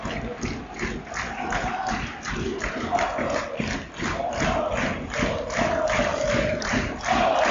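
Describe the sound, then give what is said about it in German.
A large football stadium crowd at a WSV match against Offenbach roars and chants continuously right after an Offenbach player heads the ball away for a corner, with dense, sustained noise and rising swells of voices throughout, but no distinct speech. “Und das Publikum sofort wieder da.”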